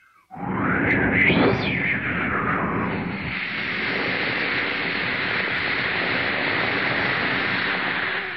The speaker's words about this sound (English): Let's have some rain.